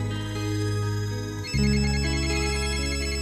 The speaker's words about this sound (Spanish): Teléfono. De madrugada. Pudiera ser a esta hora, un poquito antes.